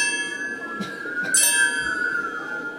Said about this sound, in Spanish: las campanas de la ciudad de Tortosa, una cerca, otras distantes, suenan tristemente por los espíritus de los muertos.